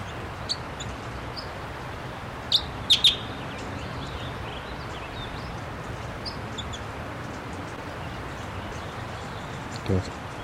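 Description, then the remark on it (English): A wild bird gives a few short, high-pitched chirps, a quick cluster of two or three standing out, with fainter scattered tweets over a steady rushing background noise. “The wild bird just flew.”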